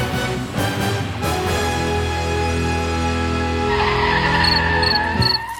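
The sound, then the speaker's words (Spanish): A large automatic Mercedes taxi drives steadily past with a loud, continuous whining engine drone full of tonal hum. Near the end, a faint high chirping repeats several times over it. No one speaks. “Es un coche automático, daros cuenta que es el Mercedes grande, entonces sí.”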